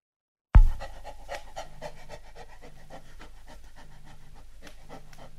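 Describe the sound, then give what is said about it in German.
Rapid, rhythmic panting from black-furred puppies shivering in the cold and dark, steady, with quick breathy bursts repeating over a low continuous hum; no one speaks. “Die Welpen im Dunkeln.”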